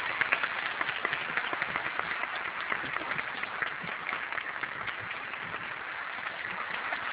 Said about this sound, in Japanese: どうぞ大きな拍手でお願いいたします。